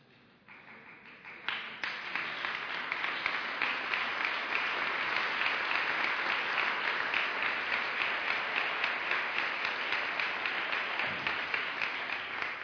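Sustained audience applause in response to what a speaker has just said, many hands clapping densely and steadily, rising quickly in the first seconds and holding loud without a break for the rest.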